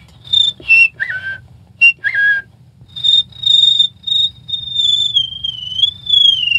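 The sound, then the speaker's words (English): A person whistles a cricket imitation: quick, high chirping bursts in short groups, then a longer wavering high whistle, clear with a faint low hum underneath. “Whistling's fun. The cricket gag is, I use that a lot.”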